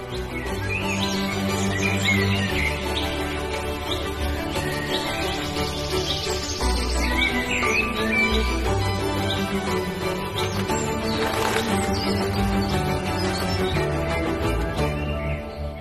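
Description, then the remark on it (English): A dawn chorus: many birds sing and chirp at once in a dense, continuous chorus, layered over a steady low tonal backdrop that runs throughout at an even, moderate loudness. “In fact, the dawn chorus was something that I used to dread after coming home from a big night out, keeping me from falling asleep.”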